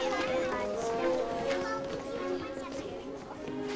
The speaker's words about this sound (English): and the other children leave the classroom.